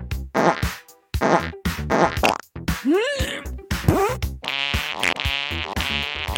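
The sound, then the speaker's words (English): A quick string of loud fart sound effects, several wet buzzy blasts in a row, some squeaking up and down in pitch, ending in a longer sputtering rasp, with no talking. “Do I have a fart sound? Do my farts still work?”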